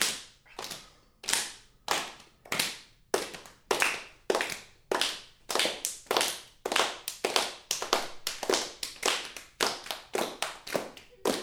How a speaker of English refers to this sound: You can hear there's different ways of clapping. Deeper clap, higher clap.